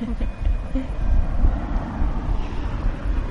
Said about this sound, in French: Là, on est sur une espèce de petit promontoire qui domine cette prairie qui descend. Et là, on entend les voitures qui passent.